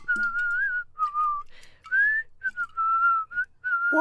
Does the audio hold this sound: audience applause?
no